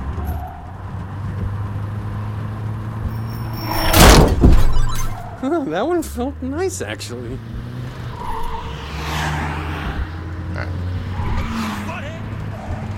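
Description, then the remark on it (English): Video game car engine sounds roar and sweep past as the player dodges cars, with a loud whoosh and thump midway and warbling tones after, while a man talks over the steady vehicle drone. “Just dodging cars here as we continue to go.”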